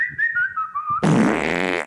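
A thin, slightly wavering whistle glides downward for about a second, then gives way to a loud, buzzy, sputtering fart sound effect that lasts nearly a second before cutting off, played in a sound-guessing quiz. No voices are heard.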